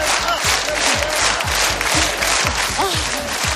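A large crowd at a Yolanda Díaz rally cheers and chants "presidenta" together in a steady, rhythmic beat, many voices rising and falling in unison over a dense wall of loud, continuous noise and clapping.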